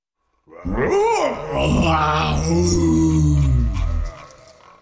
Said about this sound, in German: Plötzlich flog eine Tür am anderen Ende des Dachbodens auf. Ein ungeheuer lautes Brüllen fegte Carla zu Boden.